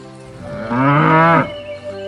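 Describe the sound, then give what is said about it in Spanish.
A single cow moos once, a loud, drawn-out low call lasting under a second, set against a steady faint background hum with no talking. “Imagina cómo podrías interactuar con la vaca o el toro, permitiendo que te llenes de su sabiduría.”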